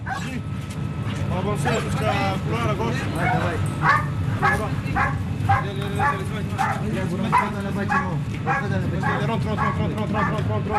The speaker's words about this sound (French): C'est près du village de Deir Kifa que se trouve la base militaire de l'armée française. Ici, on s'entraîne à maîtriser une cible avec des chiens d'intervention libanais.